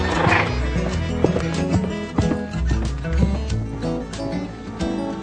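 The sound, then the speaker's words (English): A pet horse whinnies near the start, followed by steady clip-clopping hooves, all set against a busy, layered musical background that continues throughout. “Mocha is a horse.”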